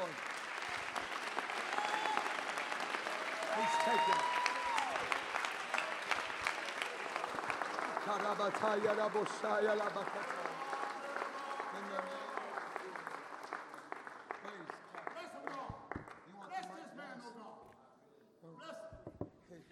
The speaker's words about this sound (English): Clap your hands.